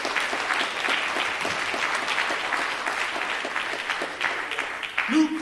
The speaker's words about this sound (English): Let's just give God a hand clap of praise in this place. He's worthy.